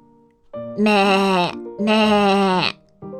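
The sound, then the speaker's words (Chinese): A sheep bleats twice in close succession, each call long, loud and quavering, with a brief lower murmur between them and another call just beginning as the sound ends. “绵羊回答道，听起来好像在开心地笑呢。”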